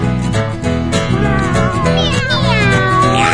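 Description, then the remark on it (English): A voice imitates a cat's meow with drawn-out, sliding cries over a loud, steady musical backing that plays throughout. “My dad has a cat on his head.”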